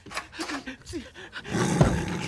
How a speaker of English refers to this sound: there is a tiger in the bathroom. What's going on? There's a jungle cat in the bathroom.